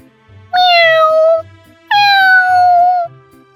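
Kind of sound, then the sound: animal, cat meowing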